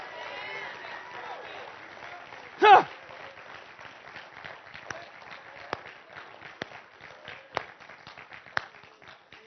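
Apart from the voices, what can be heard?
audience clapping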